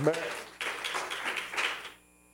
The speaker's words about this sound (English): If you love Jesus, let him know it with a hand clap of praise.